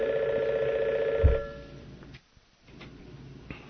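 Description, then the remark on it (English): A telephone rings with a steady warbling electronic trill that cuts off abruptly partway through, followed by quiet with a few faint clicks and no one speaking. “Okay, I was just, during the course of this message, it's been one phone call after the other, and one of them was that a man was having a heart attack about a block and a half, two blocks away from us here, so I had to arrange for somebody to go.”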